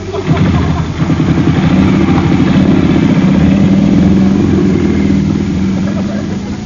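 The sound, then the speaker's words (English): A motorbike engine revs loudly and steadily, its throaty drone holding for several seconds before easing off slightly as the bike pulls away. “Quick, Bill, Andre, jump on his bike. Let's get out of here.”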